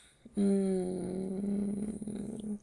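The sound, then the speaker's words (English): A person imitates a cat's purr with one sustained voiced rumble lasting about two seconds. It is fairly loud and steady, then grows slightly rougher before stopping. “I won't be able to stop purring when you walk in the door.”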